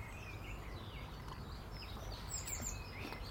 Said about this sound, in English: Mr. Blackbird's at the heavy bird bath, taking a drink. I'll have to top that up again. Every time they take a bath, they almost empty it.